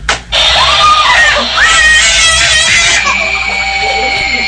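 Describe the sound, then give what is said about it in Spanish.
A loud electronic shriek and cackle from a mechanical Halloween spider toy that jumps out automatically, with sweeping high-pitched wails like Halloween witch screams layered over a young girl's screams, continuous for several seconds. “La araña sale disparada, como que salta automáticamente con una bulla así de como de gritos de Halloween, de brujas, en fin, telarañas.”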